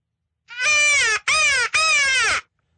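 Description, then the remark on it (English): Three loud, harsh caws blown on a crow call used in turkey hunting, the first drawn out and the next two shorter, clear with brief gaps between them and no talking. “So we do have, I have crow calls. Now, So why would you make the sound like a crow?”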